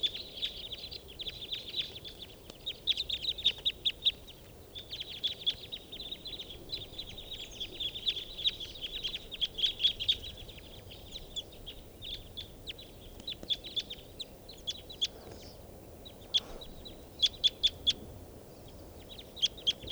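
flock of birds calling

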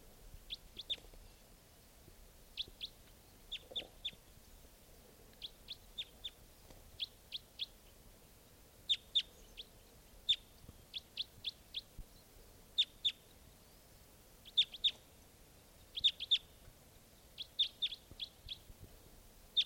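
wild birds calling

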